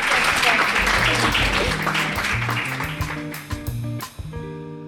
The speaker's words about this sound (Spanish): Muchísimas gracias. Gracias. Por haber participado. Un aplauso para ellos. Muchas gracias.